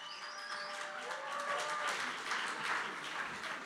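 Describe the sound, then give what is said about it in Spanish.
An audience at a late-night reading at the Cultural Fontana Rosa applauds steadily with dense, continuous clapping, and a few high whistles ring out over it in the first couple of seconds; the sound stays at an even, fairly loud level throughout. “Haga mucho ruido y mucho aplauso.”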